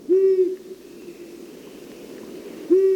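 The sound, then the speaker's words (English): An owl hoots twice, each call a steady low-pitched tone about half a second long, separated by a stretch of soft hissing background noise. No one speaks. “Wildlife advocates suggest helping the owls by preserving open, fallow fields and by avoiding pesticides that find their way into the owl's prey.”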